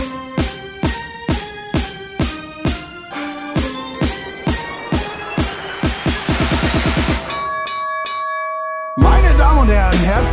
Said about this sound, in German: Da-da-da-da. Gong.